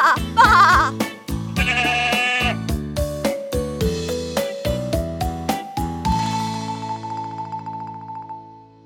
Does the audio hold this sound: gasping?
no